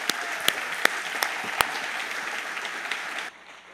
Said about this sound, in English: Don't stop clapping now.